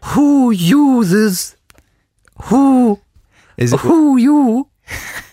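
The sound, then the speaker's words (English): A person imitates an owl, giving three loud, drawn-out vocal hoots with wavering, rising-and-falling pitch, separated by short pauses, followed by a brief breathy sound. “I've been joined by an owl. I've been joined by a giant owl”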